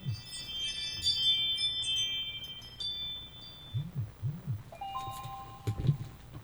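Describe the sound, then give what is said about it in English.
A mobile phone rings with a sequence of bright electronic chime tones, sounding in bursts over a low rumbling background hum with no one speaking. “Hold on, my phone is just going off.”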